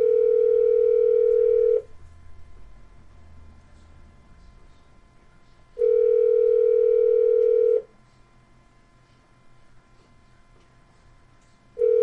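Ringback tone on a phone line during a call to Central Legal de La Raza: steady electronic buzzes about two seconds long, separated by roughly four-second pauses, with two full rings and the start of a third, alone with faint line hiss.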